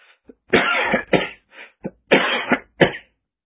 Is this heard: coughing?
yes